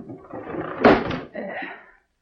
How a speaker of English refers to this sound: I'll close the window.